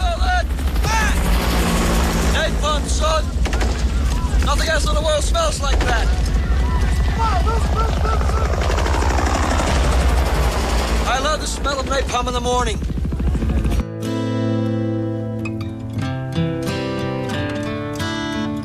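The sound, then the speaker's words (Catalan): A loud, chaotic battle scene from the film Apocalypse Now, with red skies, helicopters and fire: heavy, constant helicopter rotor rumble with bursts of gunfire and voices shouting in the din, before it cuts abruptly to quieter music near the end. “També de la mà de Coppola, també amb Marlon Brando, Duvall brillaria amb el seu paper a Apocalipsi Now, en una escena icònica de cels rojos, d'helicòpters, de foc i de bogeria, amb aquella olor de napalm al matí.”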